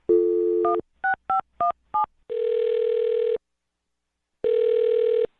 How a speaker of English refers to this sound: Okay, I'll dial the phone number and good luck.